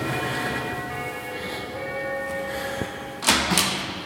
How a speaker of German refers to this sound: Dann klingeln wir mal hier und gucken mal, ob wir da jemanden kennen.